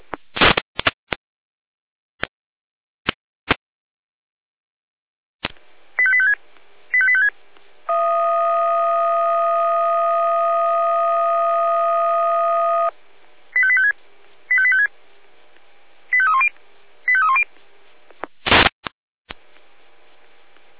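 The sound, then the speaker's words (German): Fire brigade radio alerting tones: a few sharp clicks, short bursts of electronic beeps, then a long steady buzzing tone of about five seconds, followed by more quick warbling tone bursts and a final crackle. “Ihnen haben die Alarmierung.”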